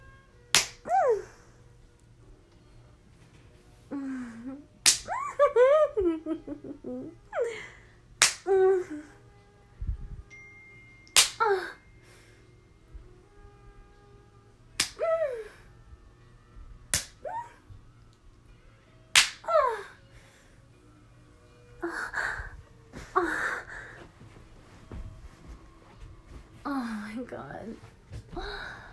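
About six sharp, loud slaps against skin, spaced a few seconds apart, with breathy gasps and moaning vocal sounds between them.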